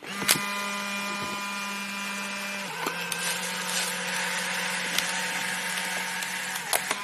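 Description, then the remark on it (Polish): A steady mechanical motor whir runs throughout, shifting pitch partway, with sharp clicks at the start and end, as an Instax instant camera is switched on, snaps a photo and buzzes the print out. “Oto uruchamiam właśnie aparat błyskawiczny, aparat Instant, i wykonuję zdjęcie.”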